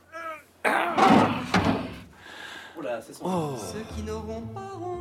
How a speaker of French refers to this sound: Venez avec moi. Ah cool. Alors, ouvrir cette porte.